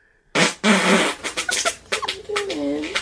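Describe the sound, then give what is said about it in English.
A loud, wet, sputtering fart-like noise bursts out, then breaks into a series of shorter blurts and a wobbling, squeaky tone that bends in pitch before trailing off. “It sounds like someone's tubing down a river. And that tube has just gotten some bad news from some wet swim trunks.”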